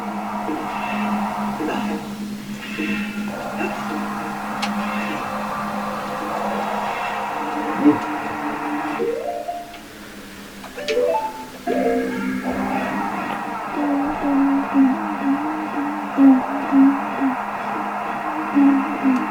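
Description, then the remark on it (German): A fan runs steadily throughout, a continuous whirring hum with a faint tonal drone, unchanging, with a few brief murmurs of voices passing over it. “Was muss er jetzt machen? Warten, bis der Ventilator aufhört.”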